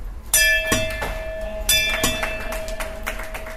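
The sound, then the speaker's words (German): A bright golden metal bell hanging beside the exit door of the West German Proton Therapy Centre is struck several times in quick succession by a patient after their last radiation treatment, each hit ringing out with a sustained, shimmering tone that lingers and overlaps, loud, with no voices. “Um den Patienten des Westdeutschen Protonenzentrums eine positive und optimistische Haltung zu vermitteln, hängt neben der Ausgangstür eine goldene Glocke, die jeder Patient nach seiner letzten Bestrahlung läuten darf.”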